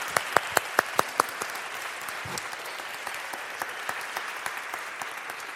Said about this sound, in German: Als erstes bitte ich euch alle um einen ganz großen Applaus für den Mut, den die Kinder hier vorne haben und die Erwachsenen natürlich auch.